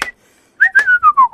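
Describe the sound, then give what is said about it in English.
Someone whistles an imitation of a phone ringtone: a short high note, a brief pause, then a loud run of quick whistled notes sliding gradually downward in pitch. “Yeah, it's a full-on ringtone.”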